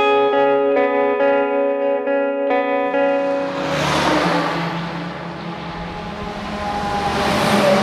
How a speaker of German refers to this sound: Ja, die Strasse ist recht stark befahren. Es ist halt dort zum Emmental, oder? Weil Lastwagen, die hier direkt gegen Luzern fahren. Und es ist viel Verkehr, ja.